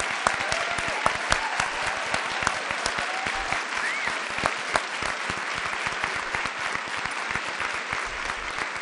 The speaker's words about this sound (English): So I'll have one more round of applause, but please don't leave.